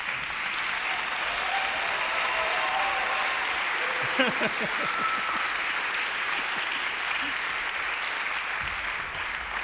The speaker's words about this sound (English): He wants applause.